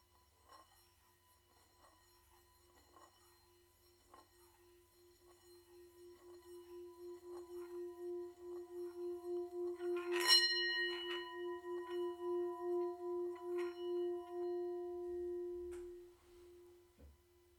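A Tibetan singing bowl is rubbed around its rim with a stick, building a sustained, shimmering tone that swells steadily with a pulsing beat, brightens with a brief strike-like ring midway, then fades out. No voices.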